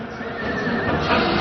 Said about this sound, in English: Down at the foot of the hill, you can hear the whinnying of Norman horses